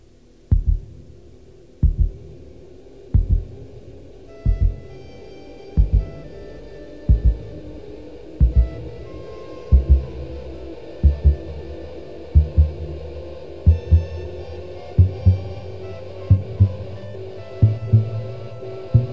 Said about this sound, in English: The overture also begins and ends with a heartbeat and introduces two of the principal motifs that will be used throughout the piece. Notice that soon after the heartbeat, that is, motif 1, is easily heard, a soprano saxophone introduces motif 2.